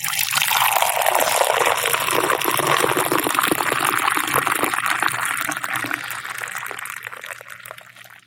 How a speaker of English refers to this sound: Now, I want the listener to envision pouring themselves a big, piping hot cup of cocoa.